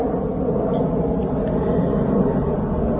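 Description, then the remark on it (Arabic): A steady, low engine rumble drones continuously, like an airplane passing overhead, with no clear change in loudness and no voices. “كما هي هذه الطائرة التي تسافر وتحلق حولنا ونحن نتحدث عن الحب في هذا البرنامج.”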